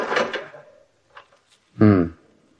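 Someone rattles and tries the lock of a wooden house door, which is locked: a scraping jiggle, a couple of faint clicks, then a short, loud tonal creak.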